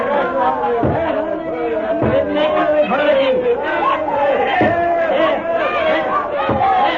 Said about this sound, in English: Outside a handsome house where soldiers of the Revolution are battering down a door, you'll see a mob of maddened men and women. And there, our story, the altar of hate begins. The altar of hate! Break down the door!